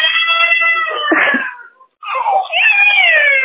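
A child crying in two long, high-pitched wailing bursts separated by a short pause, loud, with no talking.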